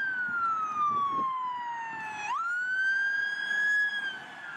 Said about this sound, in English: I was on my way home when I heard the police sirens.